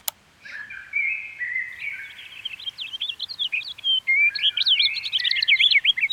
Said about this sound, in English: Let's add a few more things into the mix. How about another songbird?